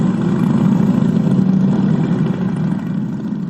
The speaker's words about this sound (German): sitzen Bikerinnen und Biker auf und lassen ihre Maschinen an. Die ersten setzen sich bereits in Bewegung, es bildet sich ein Zug am Michel vorbei Richtung A1. Im wabernden Auspuffqualm gleicht der Konvoi einer Karawane silbergespickter Lederphantome.